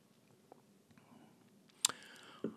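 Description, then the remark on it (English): Someone takes a quiet sip of a cider cocktail called the Autumnal, with a soft slurp, a swallow and a few small wet mouth clicks; no one speaks. “All right, well, I'll take a taste of the Autumnal.”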